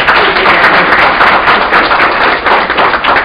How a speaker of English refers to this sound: But I would like to have a round of applause for both students first.